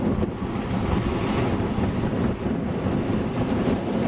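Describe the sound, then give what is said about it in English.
Steady, rushing surf washes in continuously at the shoreline, a broad wash of water noise mixed with blustery wind buffeting the microphone, with no voices present. “The water's reaching them again, but it's not moving them.”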